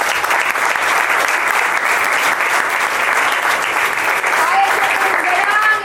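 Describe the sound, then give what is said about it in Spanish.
A large audience claps steadily and loudly throughout for Nicolás Maduro on his birthday, a dense, sustained wash of applause with a few faint cheers or whistles rising near the end. “El camarada conductor y hermano en Chávez, Nicolás Maduro, que hoy está de cumpleaños y pido un aplauso para él.”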